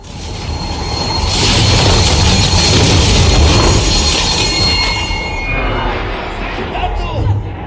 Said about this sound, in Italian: Durante la medesima notte, una valanga fa deragliare il treno, costringendolo a fermarsi in attesa di soccorso dalla stazione più vicina.